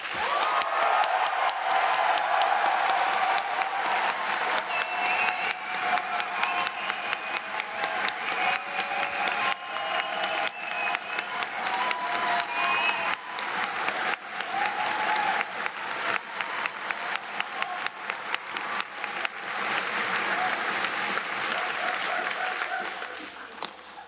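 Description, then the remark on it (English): A crowd breaks into sustained applause, a dense wash of many hands clapping that holds steady and loud for over twenty seconds, with a few faint whoops and cheers rising through it. “So, everybody applaud now.”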